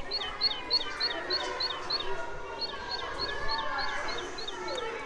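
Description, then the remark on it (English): A great tit calls in a quick, repeated series of high, bright two-note chirps, regular and steady, over a background of broad, hissy ambient noise. “That's a great tit, I think.”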